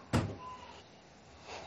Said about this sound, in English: He went to the bathroom. He didn't say that he was, but I just heard the bathroom door close.